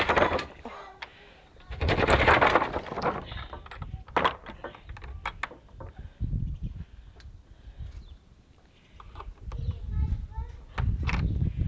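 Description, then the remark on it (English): A heavy garage door is lifted by hand and scraped along the ground: a loud, harsh grinding scrape, then scattered metallic clunks and rattles, with low rumbling drags toward the end. “No good, we'll have to get a new garage door. That one nearly kills me lifting that up. Scraping it along the ground.”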